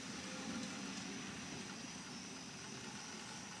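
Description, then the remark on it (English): Low, steady thunder rumbles on without pause from thunderstorm cells to the south along the I-40 corridor. It is a soft, even roar with no sharp cracks and a broad hiss above it. No one speaks. “So we're getting a little thunder.”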